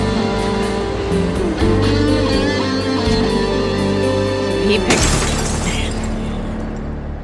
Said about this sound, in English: So the end of that is, with Jane looking on, Kyle picking up a rock and hucking it at the moving car, smashing a large hole through the back windshield.